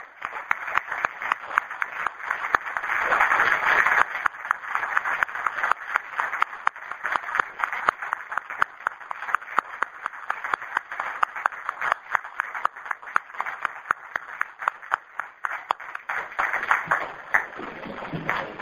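An audience applauds Monsignor Enrico Dal Covolo after his talk on educating in the spirit of Don Bosco, clapping steadily for nearly twenty seconds, many hands in a dense, even patter that holds its loudness throughout, with no voices over it.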